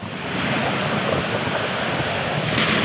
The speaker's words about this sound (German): Also die Wolken werden dunkler, die Blitze heller, der Wind stärker und der Donner kommt näher.